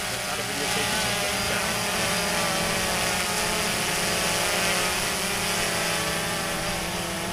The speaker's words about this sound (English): The sounds of flying drones will whiz by and through the air. They can be heard after classes at the end of a day at Pella High School.